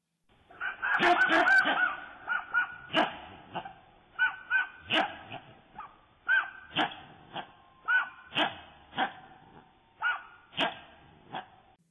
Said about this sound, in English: Interestingly enough, there seem to be some barks in the background, like a sub-layer of vocal expression. But in the forefront, you can actually hear the slowed-down bark of the squirrel, and to me, it sounds very much like a human voice